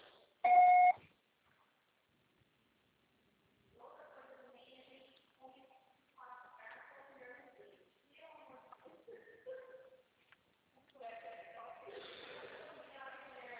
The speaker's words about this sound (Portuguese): Grave o seu recado. Você só será tarifado após o sinal.